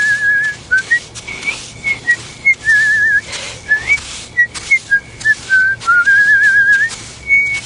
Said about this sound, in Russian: Мы усадили дедушку и покатили назад. А он всю дорогу нас свистал.